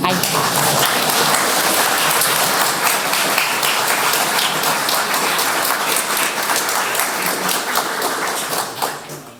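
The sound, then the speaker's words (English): An audience breaks into sustained applause, a dense wash of many hands clapping at steady loudness for several seconds before tapering off at the end. “Wow, I think this requires another applause.”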